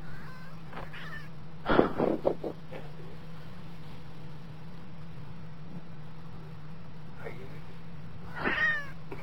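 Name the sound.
cat meowing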